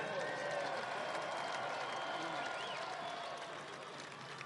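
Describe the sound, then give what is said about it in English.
A large crowd applauds loudly and steadily to thank sponsors, a dense wash of clapping with scattered cheers and faint voices mixed in, sustained throughout and easing slightly toward the end. “Thank all of our sponsors with a thunderous applause.”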